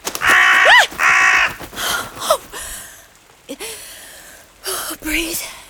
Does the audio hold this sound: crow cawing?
yes